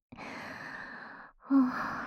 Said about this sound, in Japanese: あれ、どうしたの？すっごい息切れ。